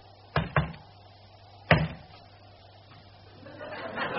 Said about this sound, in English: Answer me. Oh, go on. Knock one for yes and twice for no.